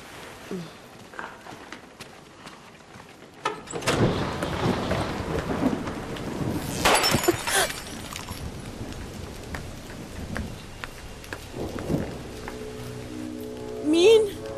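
A quiet start gives way to a steady roar of heavy rain, broken by deep rolling rumbles of thunder, with a louder crack of thunder near the end.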